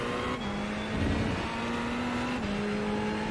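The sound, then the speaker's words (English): A race car engine roars loud, holding a fairly steady pitch with a slight gear-like shift near the end, continuous for the whole stretch with no talking. “This car gets really interesting when you get about 3 laps on the tires.”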